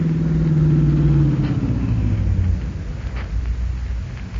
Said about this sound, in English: Here comes the bandit car. On your toes now.